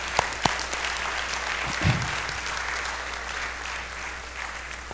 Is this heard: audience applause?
yes